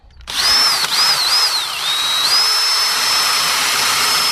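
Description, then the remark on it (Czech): A power drill whirs up abruptly and bores steadily into a freshly sawn wooden block being made into a candlestick, its high pitch dipping and wavering under load before settling into a constant loud whine. No one speaks. “Ano, bude se vrtat, brousit a tak dále.”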